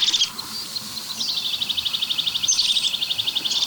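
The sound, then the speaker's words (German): A crested tit gives its call, a fast rhythmic trill of high, evenly spaced notes repeating steadily, clear over a soft background hiss, with no talking. “Das ist die Meise des Kiefernwaldes, würde ich sagen. Das ist eigentlich die Kiefernmeise.”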